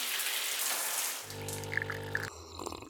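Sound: shower water running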